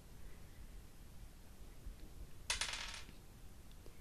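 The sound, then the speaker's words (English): Dice clatter briefly across a hard surface in a quick burst of rattling clicks that lasts about half a second, clear against a quiet background with no talking. “I need to roll the dice again.”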